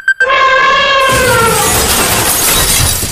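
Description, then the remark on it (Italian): An elephant in a china shop: a loud elephant trumpet blares for about a second, then gives way to a long, noisy crash of shattering china and glass that clatters on until the end, with no voices. “Potevamo fare molte cose in radio, come usare un elefante in una cristalleria, per esempio, o qualcosa che creasse attesa, come...”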